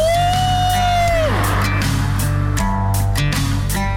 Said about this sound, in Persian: چه تونلی، چه هوایی، جیغو بزن ماشاءالله.